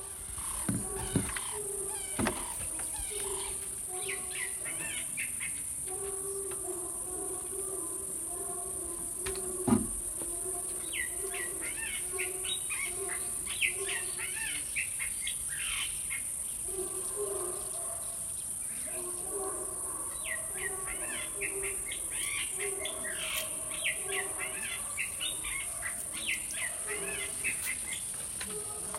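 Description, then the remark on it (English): Outdoor wildlife ambience recorded at a conservancy in Kenya: a steady high insect drone runs throughout, with scattered bird chirps and calls in bursts, a few low thumps, and no talking. “Actually, before I do that, did record a little sound because I was on a wildlife conservancy in Kenya, and wanted to throw in a little bit of the sound just to give you guys a taste of where I was at, what I was up to.”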